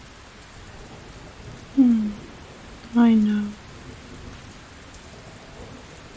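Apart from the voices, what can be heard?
rain with thunder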